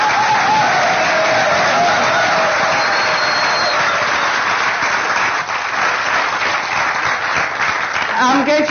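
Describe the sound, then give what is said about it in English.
A crowd claps loudly and steadily in dense, continuous applause that fills the whole stretch, with a faint tonal whine in the first half and a few cheers rising near the end. “And I really do think they deserve a massive round of applause.”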